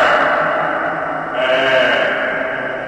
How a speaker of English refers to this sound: I am in the reverberation chamber of the National Physics Laboratory, the NPL, Nipple. It's extraordinary. Wow!